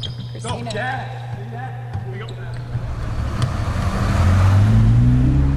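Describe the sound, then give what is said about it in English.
Basketballs thump irregularly on a court as Lou Williams and the Atlanta Hawks warm up before a game, with squeaky sneakers and a murmur of voices, while a low rumbling hum swells louder toward the end. “I'm Lou Williams of the Atlanta Hawks, and this is what it sounds like when we get ready for a game.”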